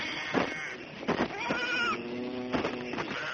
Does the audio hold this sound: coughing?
no